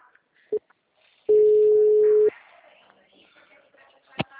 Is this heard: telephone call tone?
yes